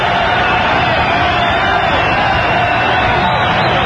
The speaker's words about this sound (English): I mean, I've never seen anything like it outside of a World Series. I haven't either. And we're in an enemy ballpark, and they're standing cheering Schmidt, the pitcher.